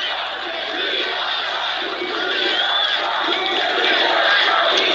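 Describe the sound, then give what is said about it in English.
A crowd of tens of thousands at a Trump rally roars with sustained shouting and cheering, hands in the air, a dense, loud wall of many voices that holds steady and swells slightly toward the end, with no single speaker standing out. “Everyone's shouting.”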